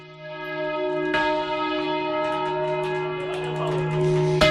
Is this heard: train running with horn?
no